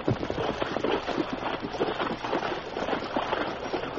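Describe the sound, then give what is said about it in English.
Horses, among them Silver and Scout, ford a creek while following a rider's trail, their hooves splashing and churning the water in a steady, rhythmic rush. The sloshing is fairly loud throughout, with no voices. “Yes, we'll ford the creek and see if he went on.”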